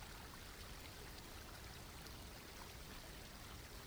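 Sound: flowing stream water trickling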